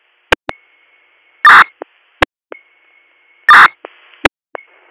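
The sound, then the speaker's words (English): A steady high-pitched beep sounds twice, each tone lasting about a second, framed by sharp clicks and loud, harsh bursts of static, with no talking. “Did you hear that noise? That beeping?”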